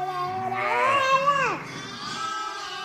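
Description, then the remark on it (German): A toddler, carried on his shepherdess mother's back among ewes and lambs, gives a single drawn-out, wavering bleat imitating a sheep, rising then falling before trailing off into quieter background sound. “Er macht auch schon Schafgeräusche.”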